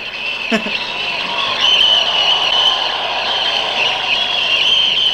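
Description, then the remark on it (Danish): Recorded applause plays back from a tape machine: a dense, steady wash of clapping with a thin, hissy, somewhat tinny tone that holds at an even loudness for the whole stretch. “Helt overdrevet klapsalvet der.”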